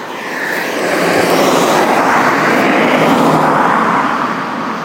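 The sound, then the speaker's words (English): A car passes by with a steady, broad whooshing roar that swells gently and fades slightly near the end, filling the whole few seconds with no voices. “Oh, car.”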